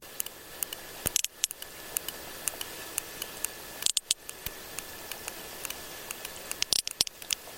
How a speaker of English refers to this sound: And that is the sound of a sperm whale from Cyprus in the eastern Mediterranean.